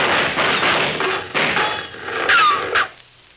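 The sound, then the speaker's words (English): A rapid series of sharp, loud gunshot-like cracks, roughly a half-dozen bursts in uneven succession, with a brief squeal near the end and no voices. “Them were shots.”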